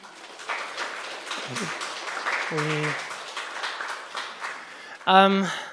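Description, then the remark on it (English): A crowd claps steadily throughout, a dense, even patter of applause, with a few short voices calling out over it and a louder cheer near the end. “I know it's been very depressing, but you guys can give a round of applause, I think.”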